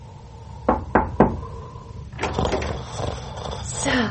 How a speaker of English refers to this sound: I apologize for disturbing you, sir, but I did knock.